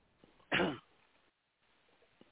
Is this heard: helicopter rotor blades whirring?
no